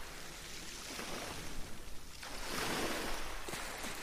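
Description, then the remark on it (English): Ocean waves wash in steadily, a broad hissing surf that swells louder midway as a wave breaks and rolls in, then eases back; no voices, just continuous water. “And just allow your attention to be guided by the sound of the ocean.”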